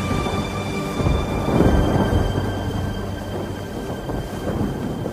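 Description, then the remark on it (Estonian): A loud, continuous roar of storm wind and crashing waves, with deep rumbling surges swelling and fading throughout and a thin whistling edge on top. No voices are heard. “Jeesus tõusis, sõitles tormituult ja laineid ning vaigistas maru.”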